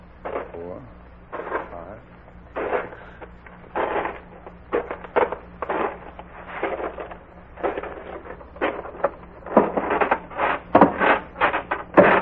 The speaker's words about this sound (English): A farmhouse with a barn only 12 steps away. 12 steps away from a porch with three creaking stairs.